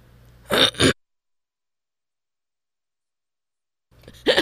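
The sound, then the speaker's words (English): A quick pair of sharp coughs, then a few seconds of silence before another short burst of coughing at the end. No one speaks. “I'm sorry, I'm over here coughing.”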